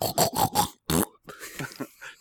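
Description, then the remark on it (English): A person imitates a pig with a rapid run of four grunting oinks, then one longer squealing oink, followed by softer, breathier snorts and murmurs, loud. “That sounds like a pig having sex.”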